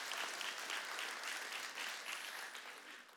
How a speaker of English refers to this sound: yeah, you can clap for that. Yeah, absolutely.